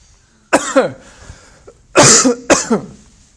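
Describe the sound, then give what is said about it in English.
Three harsh, raspy coughs from breathing in chalk, with no talking: one single cough, then a pause of over a second, then two more coughs in quick succession, each loud and breathy. “Basically what we're saying, excuse me, breathing in some chalk.”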